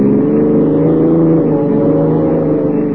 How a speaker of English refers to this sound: You're doing 70. Sure, this cop buggy can travel.